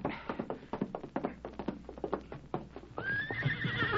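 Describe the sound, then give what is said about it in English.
Rapid hooves clip-clop in an uneven, busy rhythm for a few seconds, then a horse lets out a loud, shrill whinny that carries to the end. “Get on your horse, Lieutenant,”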